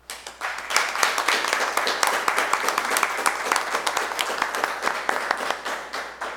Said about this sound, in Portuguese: Gostaria de convidar os nobres edis para que, de pé, desse uma salva de palmas para a nossa presidente da casa, para essa exclamação, né, tão bem colocada.